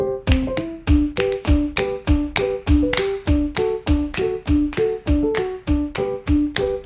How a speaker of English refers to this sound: Alright, then hit your fist with your other hand like this.